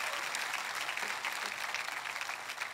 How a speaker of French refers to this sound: Oh, vous devriez applaudir, c'est la création, c'est Elohim qui devient Emmanuel.